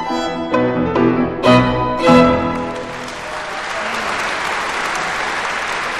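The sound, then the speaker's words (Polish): A few loud, sustained tonal chords ring out, then give way to a steady wash of concert hall applause, many hands clapping densely and evenly for several seconds with no talking. “Ale przecież to nie to samo, co aplauz i wiwaty na sali koncertowej.”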